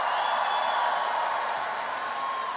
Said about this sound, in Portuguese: Cumprimentar, uma salva de palmas, nossa cantora, compositora, atriz e política brasileira, Leci Brandão, aqui presente.